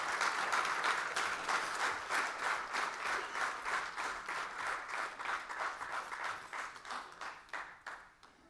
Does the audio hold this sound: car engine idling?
no